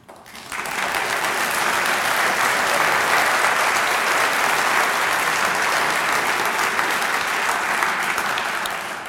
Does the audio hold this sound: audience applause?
yes